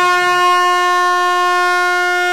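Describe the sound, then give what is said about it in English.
A single loud, sustained air horn blast blares steadily for a couple of seconds, a harsh, buzzing tone with no voices around it. “I want to walk around with one of those air horns, and when people are walking too slowly, you just hit that sound, and then they'll jump out of your way.”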